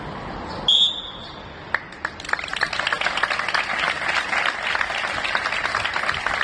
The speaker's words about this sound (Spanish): Silencio que quedaba roto por esos aplausos, ya digo, en prácticamente todos los centros de trabajo oficiales. Es el homenaje a los fallecidos por coronavirus en la última jornada de luto oficial que ha durado 10 días